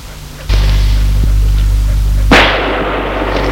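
gunshots

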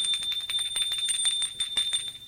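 doorbell ringing

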